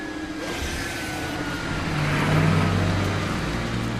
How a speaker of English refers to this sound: As security vehicles take positions in front of the nose of the aircraft